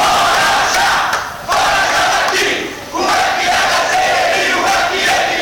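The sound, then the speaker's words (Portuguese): A loud, rowdy crowd chants and shouts together at a student assembly in a dense, continuous roar, briefly dipping twice before surging back at full volume throughout. “está aqui só para fazer baderna, essa torcida de futebol, aqui fica um torcendo contra o outro, ninguém está a favor de nada aqui, ninguém está contra nada.”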